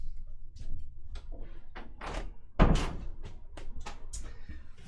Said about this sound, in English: I'm actually just realized I need to close the door, so just give me one sec to go do that.